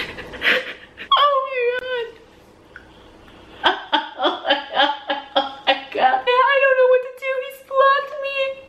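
woman crying and whimpering

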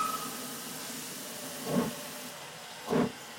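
steam locomotive hissing

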